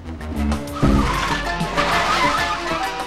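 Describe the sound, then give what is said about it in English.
A stolen car's tires skid and squeal loudly over a roaring engine as it turns sharp left in a chase, pursued by a police car and a van, with a sharp burst near the start followed by sustained screeching and rumbling motion, without any talking. “Phil turns sharp left, followed by the officials, the police car”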